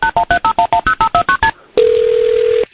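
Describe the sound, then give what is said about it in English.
A telephone keypad being dialed to call 911: about eleven quick, evenly spaced touch-tone beeps at varying pitches, then a short pause and a single steady tone held for roughly a second. No voices. “Theater workers called 911 around 7:30 a.m. on Friday morning after they reported hearing somebody banging on the walls.”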